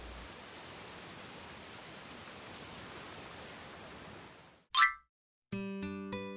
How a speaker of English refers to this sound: Oh, how it rained. One day, 2 days. It fell for a long, long time.